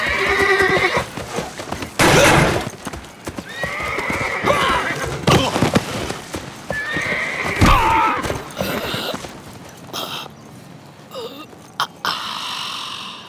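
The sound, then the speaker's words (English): A saddled horse whinnies loudly several times, shrill neighs recurring every few seconds amid stamping, clopping hooves and heavy thuds, with no one talking. “What do you want me to do about that horse?”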